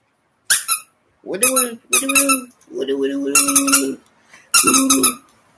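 A squeaky dog toy is squeezed five times in quick succession, each a loud, wheezing squeak with an airy hiss. One squeeze is drawn out longer than the rest.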